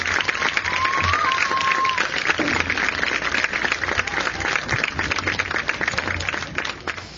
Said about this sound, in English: Please give one last applause for these outstanding senior Cubettes.